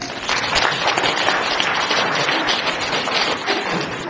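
A crowd claps hands together in a steady, dense burst of applause lasting several seconds, loud and even throughout with no voices on top.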